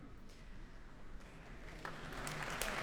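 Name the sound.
concert audience applause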